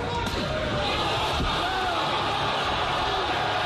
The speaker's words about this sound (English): Sounds like somebody else getting knocked out. That's a 220-pound man slapping a 260-pound man. Yeah, the 260-pound man goes to the ground.